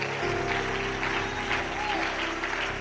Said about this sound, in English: Clap your hands all across the house.